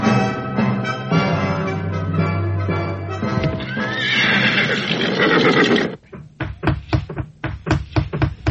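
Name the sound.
horse neighing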